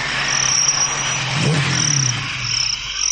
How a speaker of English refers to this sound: Don't remember that engine intro with all the sort of tweeting and chirruping, but here we go.